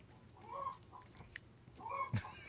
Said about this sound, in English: Oh, yeah, chicken. Oh, chickens.